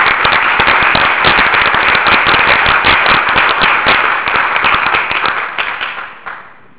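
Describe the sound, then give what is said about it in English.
An audience at a talk breaks into applause for a group of lead developers, many hands clapping in a dense, steady patter that holds strong for several seconds, then thins out and fades away at the end. “So I'd like to do a little round of applause for that group of people.”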